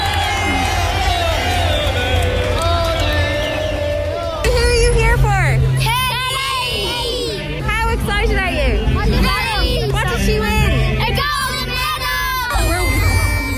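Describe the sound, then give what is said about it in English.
A dense, excited crowd at Portland Row in Dublin city centre welcomes an Olympic gold medallist home on top of a bus, with overlapping chatter, shouts and high-pitched whoops and cheers, including children's voices, building into a loud, continuous celebratory roar with a steady low rumble underneath. “And let's just have a listen what it was like for her coming back to her home in Portland Row and the reactions from the crowd.”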